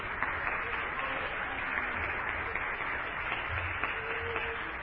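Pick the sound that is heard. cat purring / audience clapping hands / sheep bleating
audience clapping hands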